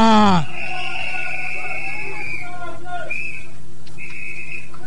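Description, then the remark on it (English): A crowd whistles at a rave, answering the MC's call for whistles for a DJ: many overlapping high-pitched whistles, one long sustained tone then short bursts, over a steady hum of crowd noise, following a sharp opening burst. “Everybody, whistle power.”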